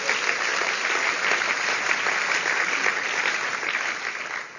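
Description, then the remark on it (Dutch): A crowd claps steadily, a dense, even wash of applause that holds at full strength for several seconds before easing slightly at the end. “Ja, dan mag je voor klappen.”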